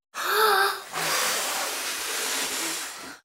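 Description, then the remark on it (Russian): A voice imitates the wolf blowing hard on the pigs' house: a short pitched, breathy intake, then a long, loud, steady whoosh of air that lasts about two seconds, with no words. “Волк подул.”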